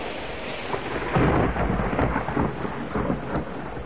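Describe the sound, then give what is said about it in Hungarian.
Steady, loud rain pours down while a deep rumble of thunder swells and rolls underneath, peaking early and lingering in low waves for several seconds. No voices. “A zivatar.”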